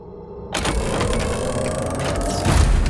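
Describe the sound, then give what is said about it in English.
A cellar door being unlocked: after a low hum, a sudden heavy clunk breaks in, followed by rattling mechanical clicks and scraping from the lock and door that grow slightly louder toward the end. “The sudden noise of the cellar door being unlocked interrupted his flow of thoughts.”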